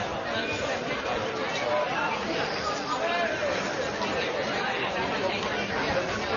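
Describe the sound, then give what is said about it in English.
Steady crowd chatter fills a baseball game at night, a dense, continuous murmur of many overlapping voices at an even, moderate loudness, with no single speaker standing out. “Pretty good crowd tonight,”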